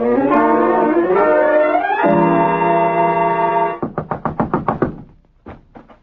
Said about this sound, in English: All right, what's the idea? You scared me out of my wits with that pounding.